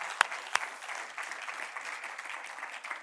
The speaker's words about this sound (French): Est-ce qu'on pourrait juste apprécier et applaudir les mamans ce matin?